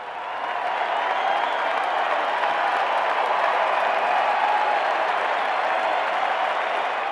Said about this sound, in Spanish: Empezaron los aplausos, esta vez por las autoridades, y la multitud siguió con gritos y elogios festejando al profesor.